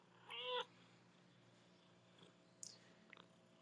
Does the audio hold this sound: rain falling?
no